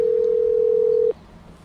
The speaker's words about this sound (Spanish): le van a interrumpir los tonos de la llamada